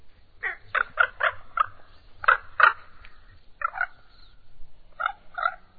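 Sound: raven calling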